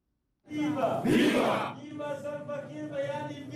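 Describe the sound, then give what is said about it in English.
At a swearing-in ceremony for the nation's first vice president in the presidential palace in Juba, SPLM and SPLM-in-opposition officials erupt in a loud burst of cheering and shouting, then settle into sustained, overlapping voices chanting and calling out together. “SPLM in opposition and SPLM officials applaud their respective movements minutes before President Kiir swears in Taban Deng Gai as the nation's first vice president”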